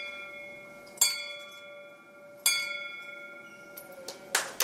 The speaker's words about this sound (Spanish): Puede parecer solo el tañido de una pequeña campana, pero para muchas personas es un símbolo de vida. Cuando una campana como esta suena en un hospital, anuncia que un paciente ha recibido el alta